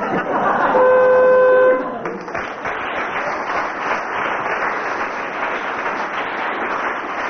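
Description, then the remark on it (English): A loud game show buzzer sounds once, signalling a contestant's disqualification: a steady, harsh tone lasting about a second, followed by several seconds of audience applause. “It was the buzzer.”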